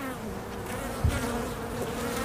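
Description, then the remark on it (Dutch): A dense, steady hum of a colony of Buckfast honeybees, a gentle breed, from the island of Marken, continuous, with many overlapping wingbeat tones and a brief low thump partway through; no voices. “Het is een prachtig bijenvolk. Het is een bukvastbij van het eiland Marken.”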